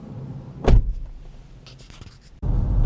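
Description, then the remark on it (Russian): Inside a car: a low, muffled cabin rumble, a sharp thump like a door or window early on, then a louder steady engine drone swells in near the end. No one speaks. “Раз уж я тут в автомобиле, буду отвечать сам.”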